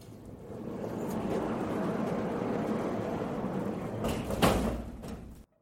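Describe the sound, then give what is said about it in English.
A heavy safe door slides shut with a steady rumbling roll lasting several seconds, ending in a loud metallic clunk as it locks, followed by sudden silence. “Please turn back and look at the closing door.”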